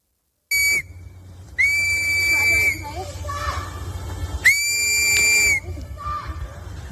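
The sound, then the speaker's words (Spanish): Three shrill whistle blasts ring out, a short one followed by two longer, steady ones, loud over a murmur of voices and outdoor crowd noise: residents in Minneapolis blowing whistles to warn migrants when ICE agents approach. “Muchos ciudadanos se están uniendo, repartiendo comida, siguiendo a los vehículos del ICE, increpando también a los agentes y avisando a los migrantes con silbatos cuando se acercan.”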